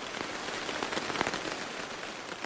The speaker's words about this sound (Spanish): Cuando llegué cerca de su borde, llovía violentamente. Sentí que las lluvias me advertían que no debería volver a enfrentarlo.